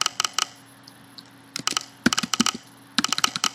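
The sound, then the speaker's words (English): Crisp key clicks from a computer keyboard as a username is typed in to sign in, coming in short bursts of rapid taps separated by brief pauses, clear with no talking. “So I'm going to type in my username.”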